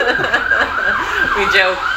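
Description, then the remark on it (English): An emergency vehicle siren wails continuously downtown in a city, its pitch rising and falling, with faint voices beneath it. “right, you can probably hear the sirens on the back of this podcast.”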